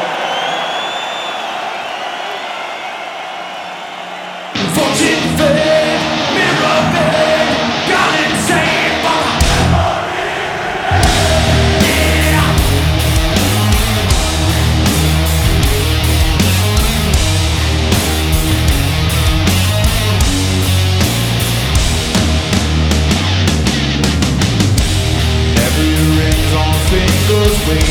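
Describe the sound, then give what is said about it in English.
A large concert crowd yells and roars loudly for a few seconds in a loudness contest against the PA system, before loud, bass-heavy amplified music bursts in and drowns them out, the crowd noise still faintly underneath. “Now we're gonna have a little contest. Do you think you're loud? We shall see. It's you against the PA, okay?”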